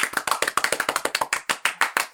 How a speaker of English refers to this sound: Yeah, and clap. Clap, yay. Louder.